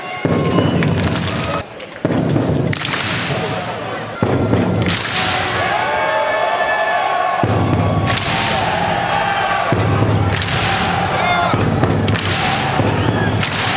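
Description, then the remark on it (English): Victor Wembanyama hits a drum twice at midcourt in San Antonio, deep booming hits each answered by a sharp, unified clap from the home crowd in a Viking-style chant, repeating in a slow cycle over a constant roar of a large crowd. “All right, so it's essentially a Skull Vikings chant, but Wemby just hits the drum twice at midcourt and they clap.”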